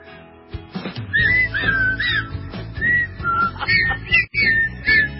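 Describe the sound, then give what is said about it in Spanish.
A woman whistles a melodic tune in tune, the pitch sliding between sustained notes over a steady musical backing, clear and fairly loud throughout. “Ay, ella es afinada silbando.”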